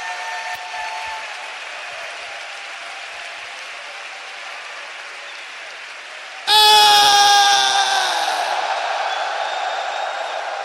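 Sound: audience clapping and applauding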